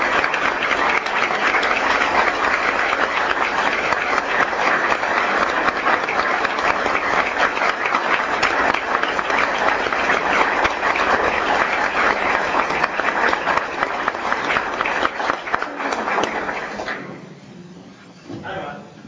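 A crowd applauds a teacher honored with the Golden Apple Award at an award presentation, a dense wash of clapping that stays loud for about sixteen seconds before tapering off quickly and fading out.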